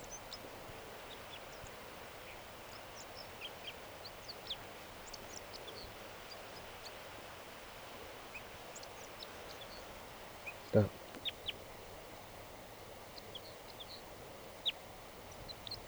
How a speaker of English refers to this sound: A crossbill just, I just noticed it. It's singing here in the tree behind the net.